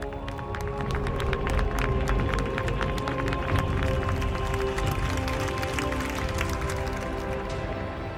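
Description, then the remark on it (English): A large crowd of the faithful in St. Peter's Square applauds the Pope as he leads the Angelus prayer from the balcony, countless overlapping claps forming a dense, sustained patter with a low murmur of voices underneath, holding at an even loudness throughout. “Peter's Square, the faithful applaud him affectionately.”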